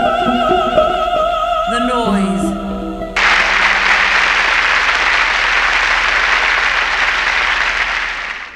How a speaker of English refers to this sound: I quite liked the applause.